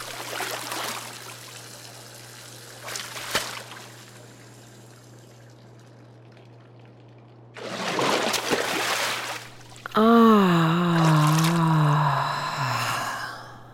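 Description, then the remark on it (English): Bath water runs into a hotel bath and splashes in a couple of broad, hissing bursts over a low steady hum as a handful of bath crystals is thrown in, followed near the end by a wavering, sigh-like vocal tone. “The hotel had kindly supplied a selection of bath crystals, and she selected one jar at random and threw a handful in while the water was running.”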